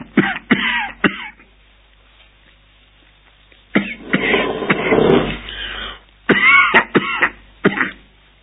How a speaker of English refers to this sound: Don't mind if I cough from time to time. That is a reminder of prison times. And with us in Romania, we have a proverb: as long as a man coughs, he's safe. No priest will bury him. So I like it if I cough.